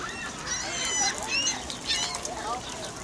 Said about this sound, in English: Those are not children screaming. Those are seagulls. Or some kind of gull. Sparrows, I think? No, those are gulls. Are those gulls? Yeah. Those are gulls.